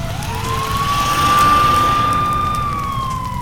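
A fire engine siren wails upward, holds a long steady high note, then begins to drop as the engine arrives at a hut on fire, sounding loud over a low rumble of engine and road noise.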